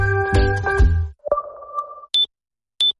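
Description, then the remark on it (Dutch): Two short, high-pitched hearing test beeps, evenly spaced, sound alone after a brief burst of layered tones and a lower sustained tone, with no talking, announcing the Schoneberg hearing test days. “Als je dit hoort, zijn er weer hoortestdagen bij Schoneberg. Of als je het juist niet hoort.”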